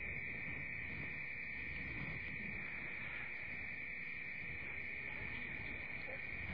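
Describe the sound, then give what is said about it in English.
An alarm blares with one steady, high-pitched electronic tone that holds unbroken for the whole stretch, loud over a faint low rumble, with no voices. “What is it with the alarms lately?”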